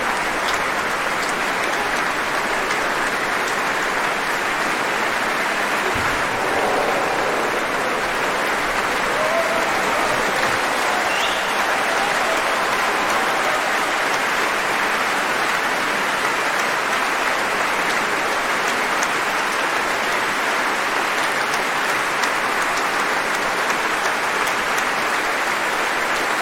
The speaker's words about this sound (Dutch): Keren zo meteen weer terug en dan zult u het applaus wel weer horen oplaaien.